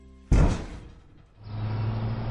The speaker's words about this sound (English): Okay, kid, your bus is coming.